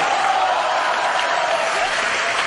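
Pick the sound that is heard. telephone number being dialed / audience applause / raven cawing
audience applause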